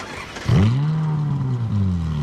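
A car engine roars to life with a sharp rev, then holds a loud, steady drone before surging again as it accelerates, with no talking.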